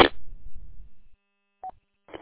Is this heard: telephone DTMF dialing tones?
yes